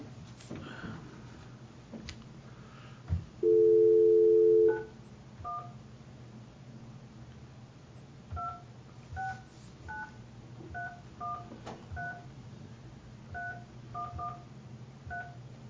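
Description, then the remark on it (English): A series of telephone keypad dialing tones, short paired beeps in an uneven rhythm, preceded by a longer steady dial-tone hum, heard clearly over a low background hum with no talking, as a county board of equalization places a phone call to a property owner during a hearing. “We need to have him on the phone.”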